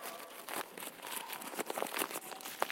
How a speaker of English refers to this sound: I mean, I've made it flat again, but it's got kind of crumples all over it.